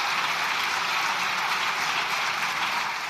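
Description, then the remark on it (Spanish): The chamber of the Spanish Congress of Deputies erupts in loud, sustained applause as a PP amendment is voted down, a dense wash of many hands clapping at once that holds steady throughout with no speech breaking through. “El Congreso de los Diputados estalla en aplausos al caer la enmienda del PP que pretendía revertir el cierre de varias centrales nucleares, entre ellas la de Almaraz.”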